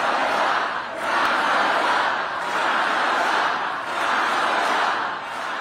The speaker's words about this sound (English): The likely Democratic presidential nominee, Vice President Kamala Harris, was cheered by a raucous crowd of thousands in Battleground, Wisconsin.